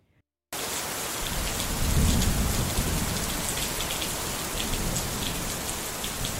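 rain falling

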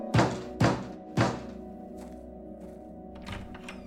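knocking on a door

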